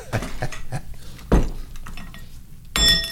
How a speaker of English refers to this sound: Oh, the bell.